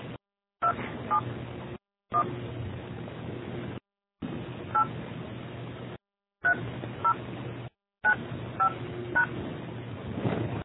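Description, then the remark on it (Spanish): A series of short telephone keypad tones as a person's phone number is dialed into a voicemail system to leave a message, beeps in quick irregular bursts over a steady low line hiss, with brief silent gaps between groups. “Por favor, ingrese el número de teléfono de la persona a la que desea dejar un mensaje y marque la tecla gato.”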